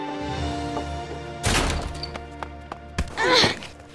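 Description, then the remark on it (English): A coyote rushes out a front door and barrels into a person: a sudden heavy collision crashes in, then a second thud as both hit the ground, followed by a brief squeaky cry, all loud over a low steady hum. “the front door burst open and a coyote rushed out and barreled right into Stacy, knocking both of them over”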